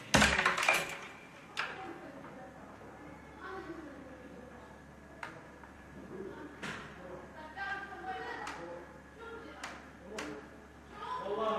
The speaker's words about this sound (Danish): De råber og skriger derinde. Jeg har lyst til at gå ind og banke på.